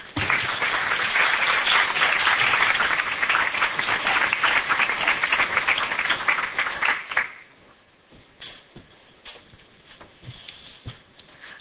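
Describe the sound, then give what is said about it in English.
A crowd applauds the governor loudly and steadily for about seven seconds, then the clapping thins out into a few scattered, fading claps. “I think we should give the governor another round of applause for his leadership and his vision.”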